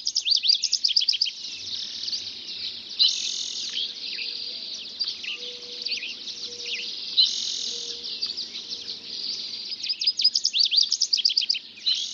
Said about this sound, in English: The dawn chorus is really a musical performance with two or three or 12 separate acts. On this particular morning, another voice joins the chorus.